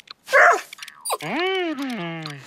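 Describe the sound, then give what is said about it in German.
A dog with fleas, scratching itself, gives a short, sharp bark, then a drawn-out whining yelp that slides downward in pitch, fairly loud with no one talking. “Oh je, Hund, du kannst ja gar nicht spielen, weil du dich so kratzen musst.”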